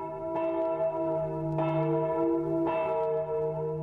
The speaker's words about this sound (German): Nachdem der Küster kommt, uns stumm zunickt und die Glocken läuten lässt